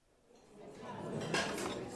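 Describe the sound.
Cafe ambience: a steady murmur of indistinct voices swells over two seconds, with a few bright clinks of dishes and cutlery rising briefly above it, as two people choose a place to sit in the cafe.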